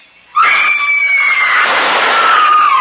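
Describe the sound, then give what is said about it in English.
A loud, sustained high-pitched scream erupts suddenly and holds for nearly three seconds, wavering slightly before sliding downward in pitch, piercing with a harsh, noisy edge. “That scream, high enough to shatter crystal.”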